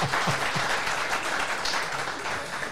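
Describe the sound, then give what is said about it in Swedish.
One person claps their hands at a steady pace in the room, the claps continuous throughout, with no one speaking. “Jag vet inte om du hörde det, men det var en som applåderade här inne i rummet.”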